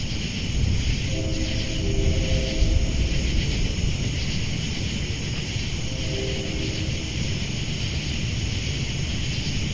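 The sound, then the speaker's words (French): A passing train echoes as a steady, broad low rumble that holds for the whole stretch, with two brief, faint tonal hums drifting over it. No one speaks. “On entend l'écho d'un train qui passe.”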